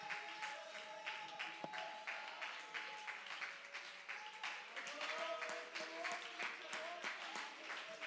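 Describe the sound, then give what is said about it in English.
An audience at Cornerstone Pentecostal Church claps steadily, giving praise to the Lord, with scattered cheers and voices calling out praise: a sustained wash of applause with overlapping shouts and some faint tonal sounds underneath. “You can clap, you can raise your hands, you can shout, you can run the aisles.”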